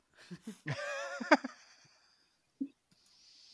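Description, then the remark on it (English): A horse whinnies once, a short wavering neigh, with a few soft snorts or thumps around it and quiet afterward. “You're making my horse work for its meal.”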